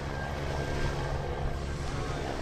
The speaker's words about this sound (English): The Shark Patrol helicopter gives the all clear, and the beach opens again to swimmers.